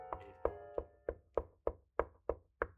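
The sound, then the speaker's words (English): Nine steady, evenly spaced knocks on wood, fairly loud, each a sharp hollow rap with a short resonant ring. No voices, just the knocking. “He's knocking.”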